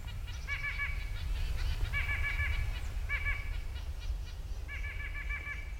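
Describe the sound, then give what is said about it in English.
Several nuthatches, moving upside-down on trees in a neighborhood, give repeated quick runs of nasal, piping notes in four bursts over a steady low rumble of outdoor background noise. “So that's where nuthatches came in. Here are several upside-down birds right now strolling trees in the neighborhood.”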